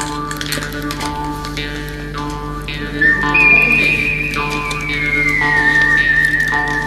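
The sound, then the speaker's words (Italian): A Wild West–style jingle introducing a Far West retelling of Beauty and the Beast: a sustained whistled melody enters partway through over a steady instrumental backing, sliding gently downward in pitch, clear and upfront, with no voices. “Sentiamo questo fischio, questa ambientazione. Infatti questa storia è ambientata dove? Nel Far West.”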